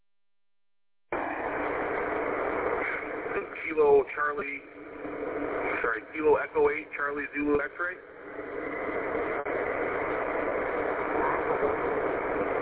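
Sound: car engine running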